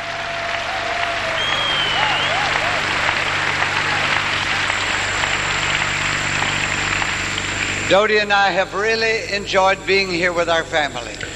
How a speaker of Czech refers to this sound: Ještě jsem neviděl takového překladatele, který by se tak sjednotil s tím kazatelem. Zatleskejte mu.